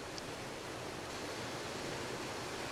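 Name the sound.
ocean waves rushing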